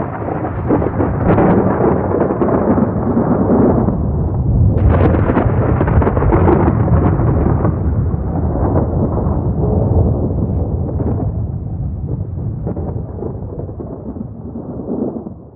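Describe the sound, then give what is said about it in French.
A loud, sustained rumble of thunder rolls on for about fifteen seconds, with a sharp crack partway through, then slowly fades as the low roar trails off. “Hors de lui, le diable lance sa bomba au sol et disparaît au milieu des éclairs.”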